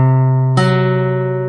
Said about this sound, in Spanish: Técnicamente, el tritono es la distancia que hay entre dos notas que suenan a la vez.